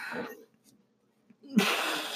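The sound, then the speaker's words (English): A short breathy burst opens, then a pause, then a muffled low burp erupts into a long, rushing exhale of air. No one speaks. “Sorry guys, I got a burp.”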